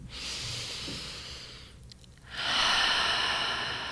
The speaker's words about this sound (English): We're going to start by taking some deep and slow breaths. Just breathing in through your nose, out through your mouth.